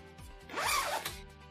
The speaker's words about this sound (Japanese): このチャックを外す音、誰得だ？脱ぎました。